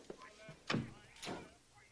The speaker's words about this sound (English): He closes the door.